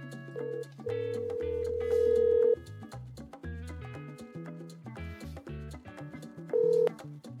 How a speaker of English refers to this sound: I'm going to call. This I'm going to use a phone friend. Calling right now. Putting on speakerphone.